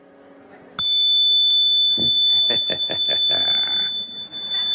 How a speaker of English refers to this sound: That's the delightful little chime we use to begin our sessions. It also serves to sort out the evil ones among us.